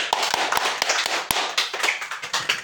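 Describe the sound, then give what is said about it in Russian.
A small group at a 12-step recovery meeting claps steadily for a few seconds to welcome a speaker, a dense patter of hand claps with a few sharper, louder slaps standing out. No one speaks. “Поприветствуем.”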